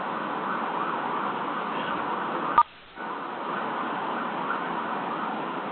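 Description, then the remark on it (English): An emergency vehicle siren wails steadily in the background of a conference call, heard through a muffled, phone-quality line, cutting out abruptly for a moment before the noisy wail resumes. “Somebody's having a hell of a tough time muting with a siren in the background.”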